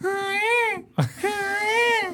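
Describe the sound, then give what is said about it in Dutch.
A person imitates a peacock call with two loud, high, wailing cries, each a drawn-out nasal screech with a brief gasp between them. “Ik kan eens een pauw nadoen. Dat is echt een verschrikkelijk geluid.”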